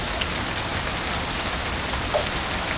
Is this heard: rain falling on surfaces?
yes